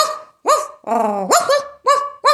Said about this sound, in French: En arrivant alors devant cette maison, Renard est accueilli par des aboiements.